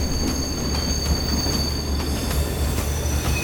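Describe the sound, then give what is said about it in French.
A train bound for Toulouse rolls steadily along the rails around 8:40 p.m., approaching La Jonchère-Saint-Maurice, about twenty kilometres from Limoges, France, with a deep continuous rumble, a thin high-pitched wheel squeal held throughout, and regular rhythmic clicks from the track joints. “Vers 20h40, le train approche de la Jonchère Saint-Maurice, une commune située à une vingtaine de kilomètres de Limoges.”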